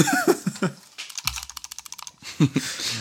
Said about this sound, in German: Ohne, dass du jetzt im Hintergrund früher umeinander klickst.